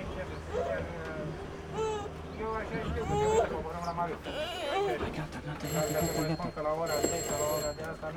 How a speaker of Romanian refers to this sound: Cine sună? Alo? Alo?